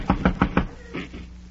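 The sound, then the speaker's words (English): Four quick, evenly spaced knocks on the door of a neighbor's house in a George Burns and Gracie Allen radio comedy sketch, sharp and fairly loud, followed by a softer, muffled sound as the knocking stops. “I'll knock on the door.”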